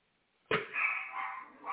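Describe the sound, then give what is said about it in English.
The speaker's own dogs barking: after a brief silence, a sudden loud outburst of barking starts and carries on as a rough, continuous, muffled noise until the end, with no one talking. “Oh, there's my dogs.”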